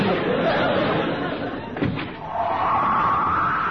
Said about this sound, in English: Oh, that door. Every time it slams, the place shakes.